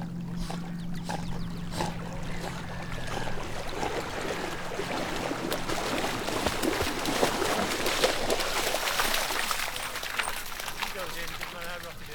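A dog swims closer with steady splashing and sloshing water, its head held above water, its breathy snorts growing nearer and louder until it comes out of the sea in a wet burst of splashes.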